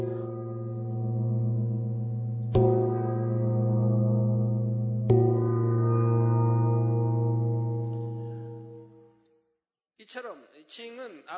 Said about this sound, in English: But unlike cymbals, gongs are made of heavy and thick metals. Now let's listen to the sound of the gong.